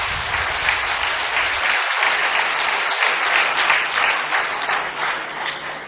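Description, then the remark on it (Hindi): An audience applauds steadily for several seconds at the speaker's request, to show they liked what was said, a dense wash of many hands clapping at an even, loud level with no voices standing out. “अच्छा ताली बजा के बता दे कि अच्छा लगा।”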